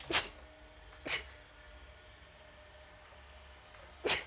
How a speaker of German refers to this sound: Jetzt muss ich, glaube ich, gleich niesen.